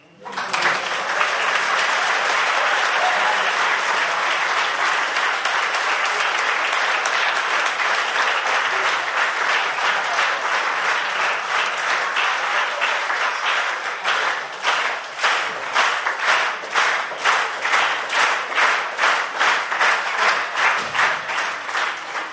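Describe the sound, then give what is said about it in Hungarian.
An audience applauds loudly and steadily for over twenty seconds, the dense wash of clapping gradually turning into more rhythmic, unified claps toward the end. “Bocsánat, nem azért szakítom félbe a tapsot, hanem azért, mert 78 produkció lesz.”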